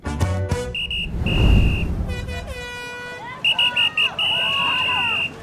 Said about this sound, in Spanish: Ya, cálmese con ese silbato, profesor. En mis clases no es necesario.